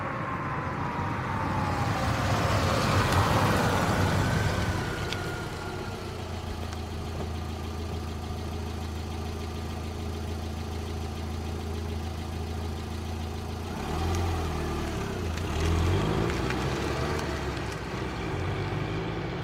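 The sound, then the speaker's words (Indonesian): Steady low engine rumble fills the interior of a moving public bus carrying passengers, many of them schoolchildren heading home, around 4 in the afternoon under a darkening sky before rain, with a sustained drone that swells around the start and again near the end, as if the bus accelerates. “Dalam bisingnya bis yang ditumpangi, raut muka para penumpang tidak memunculkan munafiknya.”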